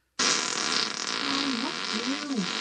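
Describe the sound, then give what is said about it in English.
A sustained, buzzy fart noise from a played clip starts abruptly and rumbles on for a couple of seconds, loud, its pitch wobbling up and down almost like speech, as a man and a woman answer each other in farts. “He talks to her in fart. He answers in fart.”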